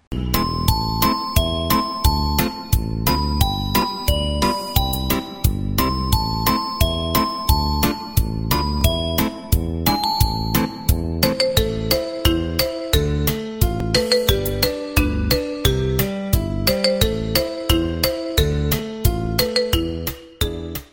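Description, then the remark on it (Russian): Bright, tinkling chimes imitate the ringing drips from icicles in a spring thaw, a quick, steady patter of high notes, fairly loud throughout with no voices. “Капели-то трезвон, динь-дон, динь-динь-дон.”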